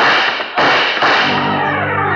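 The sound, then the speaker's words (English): Three loud gunshots fired at a man on a spiral staircase crack in quick succession, each sharp blast followed by a long ringing decay that blurs into the next, with no voices heard. “A couple of bullets flew up the spiral and caught him in the chest.”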